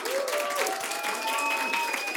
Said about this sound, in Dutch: Nu eerst een heel groot applaus voor onze experts van vandaag. Dank jullie wel.